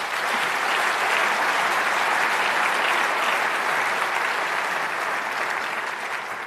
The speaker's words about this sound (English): Then I have an announcement to finish this off, but first I wanted to say maybe it's good to give a round of applause for the speakers.